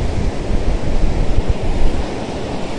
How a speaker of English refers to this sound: Wow, that's windy.